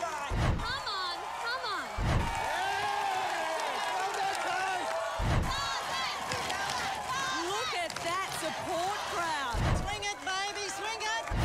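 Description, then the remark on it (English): Family members, men and women, scream and yell excitedly from the sidelines at a footy (football) match, high-pitched and strained, over a steady crowd roar. Loud thuds or bursts cut in four times. “Yeah, so we put a bit of a montage together of some of those screaming family members and let's see who is yelling louder, the men or the women.”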